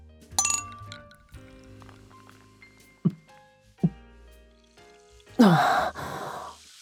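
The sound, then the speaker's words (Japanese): Champagne glasses clink together twice in a quick toast, bright ringing taps, followed by a satisfied breathy sigh after a sip of champagne. “というわけで、乾杯！”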